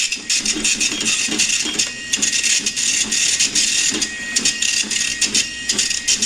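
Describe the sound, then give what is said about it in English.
An Epson dot matrix printer rattles steadily as it prints a table, its harsh buzzing head sweeping back and forth in quick, repeated passes, loud, with no voices. “The next one is an Epson printer, and I think Carrie has decided this is printing a table.”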